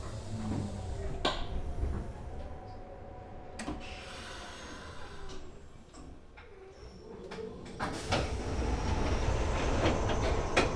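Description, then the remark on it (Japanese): An express train bound for Fukuoka Tenjin runs along the rails with a steady low rumble and a humming motor whine, broken by a few sharp rail clacks, the noise building toward the end. “福岡天神行き急行です。扉が閉まります。”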